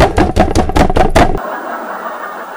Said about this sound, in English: There was 12 of us in the basement. And then there's a knock on the basement door.